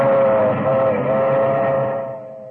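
A milk train rumbles by while its whistle blows one long, loud, steady chord, fading slightly near the end; no one speaks.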